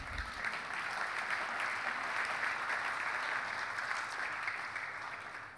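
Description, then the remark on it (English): A church audience applauds steadily during a sermon about the altar call, a dense wash of many hands clapping at an even level for several seconds, tapering slightly at the end, with no voices standing out. “You can clap for that.”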